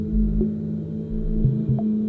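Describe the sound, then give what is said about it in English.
Low, steady electronic drones from home-built synthesizers hum beneath slow, throbbing bass pulses and a few soft pitched tones, moderately loud and continuous with no voices; a track released in 2017 by a Copenhagen-based artist. “In the background, we're listening to the artist … and his track … from the album …”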